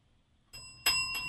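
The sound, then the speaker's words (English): A bright bell, used as a sound cue, rings out after a brief quiet, its clear sustained tones struck again twice in quick succession, fairly loud with no voices. “I'm glad we keep the bell around just for these sorts of things.”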